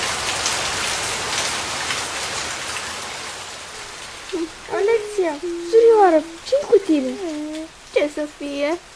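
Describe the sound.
Fine, steady drizzle hisses softly and continuously from start to finish, with a person's voice speaking over the rain during the second half.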